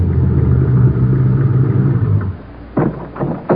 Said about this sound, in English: Stop the car at this end of the hangar, if you will, Cadet. Yes, sir.